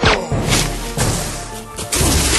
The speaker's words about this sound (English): The body crashing to the ground had made enough noise to attract the attention of the other mutie on the far side of the deadfall.